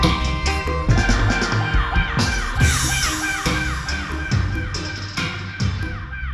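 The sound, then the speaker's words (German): A dense, loud chorus of jungle birds in Jamaica calls and squawks continuously, harsh caws overlapping with higher chattering notes, with no one speaking. “Stell dir vor, du bist im Dschungel und lauscht all den schönen Vogelgesängen.”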